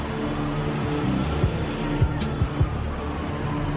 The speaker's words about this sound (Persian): موتور سوار اصلا به مالک توجهی نمیکنه، از کنارش رد میشه.